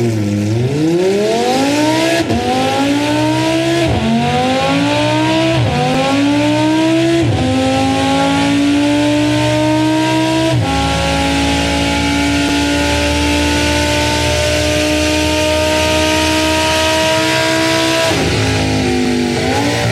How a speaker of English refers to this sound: The sound you're about to hear was recorded on a rolling road. The outside rear of the car was removed, so you can hear the engine from the inside.